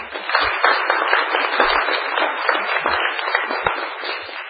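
A room full of people at a council meeting with the mayor applauding another round for a speaker, a dense, steady wash of many hands clapping that holds at an even volume for several seconds with no voices over it.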